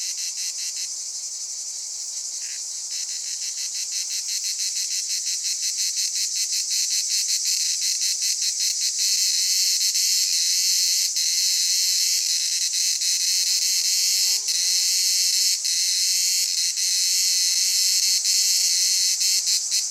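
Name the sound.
cicadas singing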